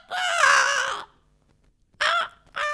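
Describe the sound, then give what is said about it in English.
A person imitates a crow's caw: one long, raspy, drawn-out caw, a brief pause, then two shorter harsh caws in quick succession, the last cut off. “And I love crows. Then went.”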